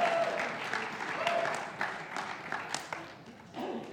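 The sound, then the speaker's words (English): A crowd applauds steadily for the Mariners, dense clapping forming a continuous wash of noise with a few cheers and whoops rising over it before it gradually thins out. “Give it up for the Mariners, can we at least?”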